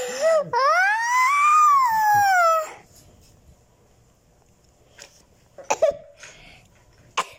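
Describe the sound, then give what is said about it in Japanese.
A few short, sharp coughs come in quick succession near the end, moderately loud, following a quiet pause after an earlier long, drawn-out vocal sound. “ちょっと咳しちゃいました。”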